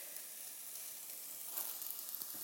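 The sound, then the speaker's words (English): Steady, bright sizzling of peeled food starting to fry off in a pan while making soup, a dense crackling hiss with a few sharper pops toward the end and no voices. “So once they've started to fry off, I can just wash my hands.”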